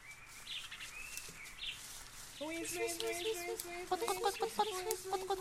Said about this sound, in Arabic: أما يا أصدقائنا، فإن الدجاجة دخلت في بيتها وفجأة صاحت بفراخها الصغار.